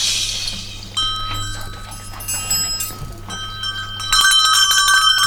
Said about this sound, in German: Welches Instrument haben wir jetzt gehört? Glocke. Ja, okay.